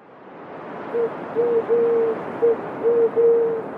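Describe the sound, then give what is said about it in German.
A pigeon coos in a soft, low, repeated series of about six hollow notes, some short and some drawn out, over a steady hiss of background noise, with no voices. “Neben ihr flattert eine Taube und schaut sie an.”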